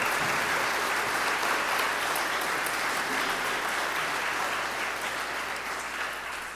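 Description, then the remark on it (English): A Saturday Vigil Mass audience at St. Joseph Parish applauds steadily for a couple's 50th wedding anniversary. The clapping is a dense, even wash of many hands at a sustained level for several seconds, easing slightly toward the end. “We can clap for that.”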